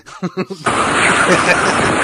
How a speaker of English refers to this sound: As you can hear, the winds are gusty.